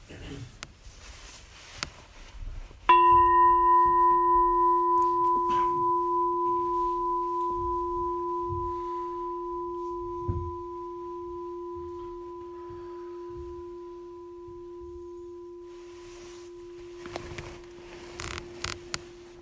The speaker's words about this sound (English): So we'll start and end with the bell.